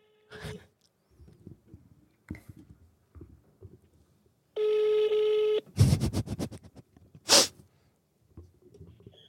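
A steady electronic telephone tone holds for about a second, followed by a quick run of clicky dialing bursts and a short loud ring signal, with faint murmuring around it, as a phone call is placed live on air.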